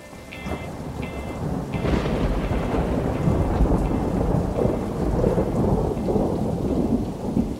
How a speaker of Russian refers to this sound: Вот наступили такие летние дожди, каких много-много лет не видали в горах. Целых 3 месяца долину окутывали тучи и наполненный влагой туман. Постоянный неумолимый дождь прерывался ливнем с грозой, и по окончании одной грозы налетала другая.